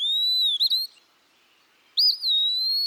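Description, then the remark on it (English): Two clear, high, slurred whistled phrases from a single Eastern Wood-Pewee singing in a backyard in South Carolina, each drawn out and wavering, separated by a second of silence. Prominent, with no voices. “Dear Wood Pee-wee, thanks so much for bringing a bit of mystery to my backyard.”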